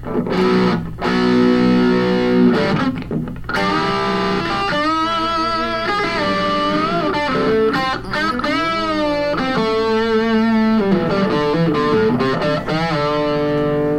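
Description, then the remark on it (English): Electric guitar through a Klon overdrive into a Marshall amp, playing a crunchy, harmonically rich lead with sustained notes, wide string bends and vibrato, continuous and loud with no talking. “Turn the Klon off so that we can hear the Marshall direct.”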